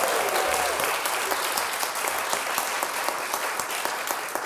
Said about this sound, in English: You're the audience, and we love you. And give yourselves a round of applause one more time here.